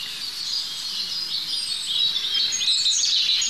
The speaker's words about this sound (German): So, wir haben die 3 Rotkehlchen jetzt hinter uns gelassen und hier sind wir jetzt schon beim 4.